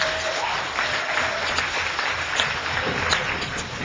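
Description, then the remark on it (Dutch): An audience at a school debate final claps steadily for the finalists for a few seconds, a dense, even patter of many hands at a fairly loud level with no voices standing out. “Ja, applaus, tuurlijk.”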